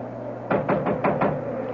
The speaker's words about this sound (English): I'll knock.